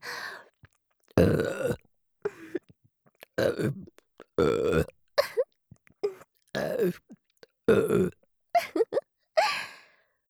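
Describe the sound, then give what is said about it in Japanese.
A run of loud burps by a young woman, roughly eight or nine in ten seconds, some short and clipped, others drawn out and croaky, separated by brief silences with no talking. “お姉さんのリアルゲップがエロすぎる？”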